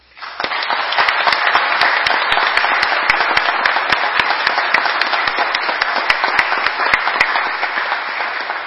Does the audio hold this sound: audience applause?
yes